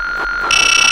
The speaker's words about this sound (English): That beeping sound tells you that you are in range.